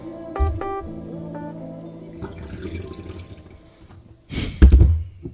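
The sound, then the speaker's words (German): Water splashing and trickling as if into a toilet bowl, with a few clinks early on and a louder rushing burst near the end, with no voices. “Hast du das Plätschern gehört?”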